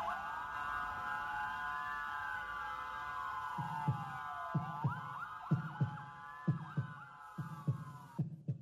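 A steady thumping heartbeat, low and pulsing in regular double beats, grows clearer over a droning hum and a slow rising-and-falling siren-like tone, with no voices.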